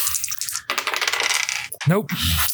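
Dice clatter and rattle across a hard tabletop in a busy burst, then tumble briefly again before coming to rest. Nobody speaks.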